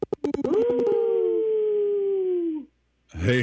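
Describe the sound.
A radio show caller on Native Roots Radio imitates a wolf howl: one loud, sustained voiced tone lasting about two seconds that sags slowly in pitch, after a few quick taps, with a voice starting to speak just after.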